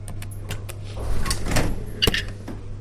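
The door to the first room of a secured laboratory opens with a series of sharp mechanical clicks and a soft airy whoosh, ending in a crisp latch, all over a steady low electrical hum; moderately loud.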